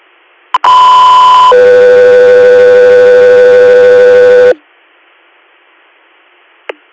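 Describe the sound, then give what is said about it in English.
Two-tone dispatch alert for Guthrie: a loud, steady high tone lasting about a second, then a lower, sustained tone held for about three seconds, bracketed by short radio clicks. “Guthrie, stand by for tones.”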